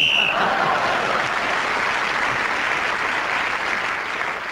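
whistle blown

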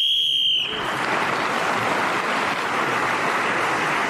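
whistle blown

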